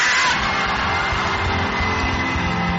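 A church audience shouting together at the preacher's call, a loud, sustained roar of many voices, a dense wall of cheering and yelling that holds steady for about three seconds.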